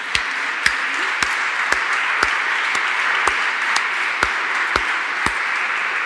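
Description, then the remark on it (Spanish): An audience applauds a prize-winning work at an award presentation, steadily for about six seconds, a dense, even wash of clapping punctuated by sharp, regular accents roughly twice a second. No one speaks over it. “Creo que no se encuentra en la sala, pero se merece un aplauso.”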